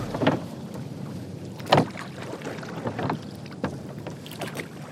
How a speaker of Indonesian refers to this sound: Para sahabat menyeberang dari negeri Makkah ke negeri Habasyah menggunakan perahu.